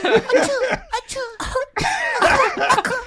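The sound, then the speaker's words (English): Someone makes a series of small, breathy coughing sounds with their voice, imitating a tiny cough, in quick bursts, with voiced, laugh-like sounds mixed in. “Imagine how tiny his cough was.”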